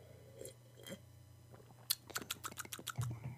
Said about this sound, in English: Hold on, let me take a sip of my beverage over here.